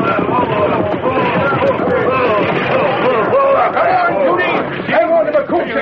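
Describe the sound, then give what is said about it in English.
A dense, steady babble of many voices fills the scene, loud, with overlapping chatter and no single voice standing out for the whole stretch. “I never thought there'd be such a crowd.”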